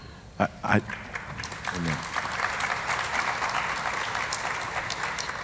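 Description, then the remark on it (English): An audience breaks into applause after a couple of sharp thumps and a brief vocal sound, the clapping swelling into a dense, steady patter that holds at a moderate level to the end. “Y'all didn't have to clap for me.”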